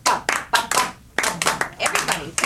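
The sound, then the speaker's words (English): Hands clap in quick, uneven bursts, fairly loud, about a dozen sharp claps with a short pause midway before picking up again, during a music therapy session. “Now we can clap.”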